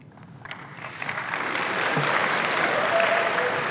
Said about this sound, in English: The applause are for me because I won in that deal, I promise you. I won in that deal.